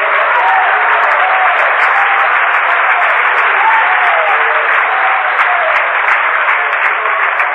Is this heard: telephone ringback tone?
no